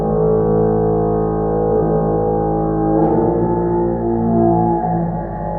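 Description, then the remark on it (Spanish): At night, a loud, sustained electronic horn-like blare with steady stacked tones droning without pause, shifting slightly in pitch around the middle before carrying on just as strongly. “Ahora lo puedo describir como la bocina de un aparato electrónico, tal vez un altavoz reproduciendo música computarizada, pero entonces en aquellos tiempos el sonido no tenía explicación.”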